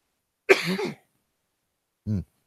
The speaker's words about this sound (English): had to cough there.